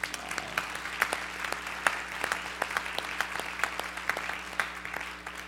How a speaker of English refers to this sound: And we are truly grateful for this magnificent Minnesota day. Can we applaud this day?